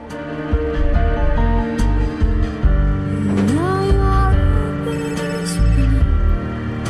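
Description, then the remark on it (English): A flip mobile phone rings loudly with an incoming call from home, outdoors in falling snow by a bonfire, a continuous electronic melody with a rising tonal swoop partway through, and no voices. “He flips open his mobile phone. Its screen reads, "Home calling."”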